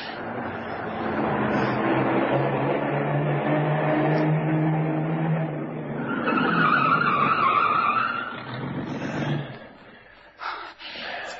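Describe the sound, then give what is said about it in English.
A car engine roars, then tires skid and squeal as the vehicle slides to a halt, followed by quieter rustling and a few soft knocks. “We can hide the car in there. Good idea, kid. Drive in there and stop.”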